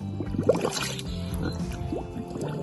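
A pig blows bubbles into a puddle of water, making a continuous gurgling, sloshing burble mixed with low snuffly grunts for a few seconds.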